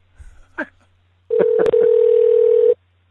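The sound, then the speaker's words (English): A steady electronic phone dialing tone, heard while adding a participant to a call, holds at one mid pitch for about a second and a half, interrupted by a brief click, after a couple of short soft sounds at the start. “And, of course, now everybody's going to hear me click, click, clicking away.”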